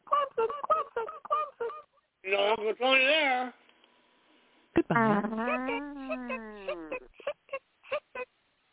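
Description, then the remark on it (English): Loud fart noises: a quick string of short sputtering bursts, a couple of longer honking blasts, then one drawn-out, sagging blat that trails into more brief pops. “Did y'all hear that, man? That was some barbecue chicken. Woo! Lord have mercy. That was a real fart, man.”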